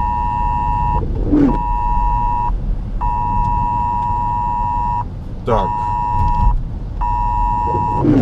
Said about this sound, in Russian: Что-то у меня тут в машине гудит. Даже не знаю, что сказать. Такого еще не было.